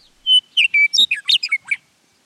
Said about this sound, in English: Fortunately for us, a song of such sustained, rich, liquid whistles at contrasting pitches gives the meadowlark singing acoustic qualities that carry over long distances. Look, but especially listen, for meadowlarks in the open country of the West.